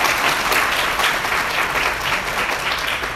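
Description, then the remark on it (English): An audience at a summer shiur claps steadily for the organizer of the shiurim, a dense, continuous patter of many hands at a fairly loud, even level for a few seconds, with no voices standing out. “She certainly deserves a round of applause.”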